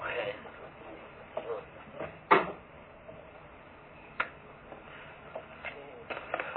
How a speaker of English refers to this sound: Just move your chair next to Honorable Stevens.